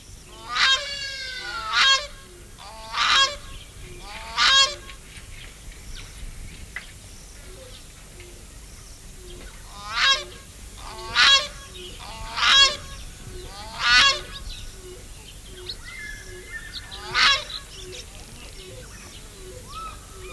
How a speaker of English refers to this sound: Note that in addition to the ordinary awang, awang, awang call, awang incidentally being the Jaluo name of this species, that there was an odd sort of hoo, hoo, hoo, hoo, hoo sound going on, which is a breeding call, I think.